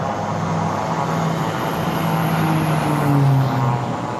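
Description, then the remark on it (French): A steady, droning propeller aircraft engine of a Berlin airlift plane fills the whole recording, a loud continuous hum whose pitch wavers and rises slightly toward the end, with no talking. “Et dès qu'on entendait de nouveau le bruit, un ronronnement de moteur, alors la ville respirait.”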